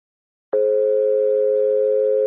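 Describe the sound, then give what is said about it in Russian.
An answering machine beep tone: after a moment of silence, a single loud, steady electronic tone starts abruptly and holds at an even pitch for almost two seconds. “Оставьте вашу радиогазету после звукового сигнала.”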